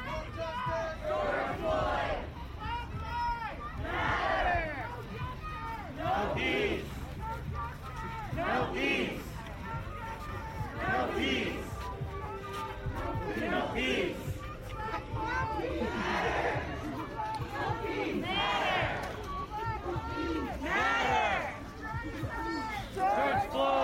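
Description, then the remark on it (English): A large protest crowd against police violence in Catskill chants and shouts in rhythmic waves, many voices rising and falling together over a steady murmur of footsteps and chatter as it marches from Catskill Middle School across the Black Bridge over Catskill Creek to the Greene County Courthouse. “The crowd met at Catskills Middle School at 5 p.m. June 4th and walked across the Black Bridge over the Catskill Creek and down to the Greene County Courthouse, where speakers denounced police violence.”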